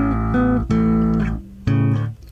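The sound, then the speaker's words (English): A bassist plays a slow melody of the national anthem on bass guitar in a clean recording, held notes changing pitch every half second or so with sharp plucked attacks, loud and steady with no voices or background noise. “And then he gets to this part, and he decides to let it go a bit.”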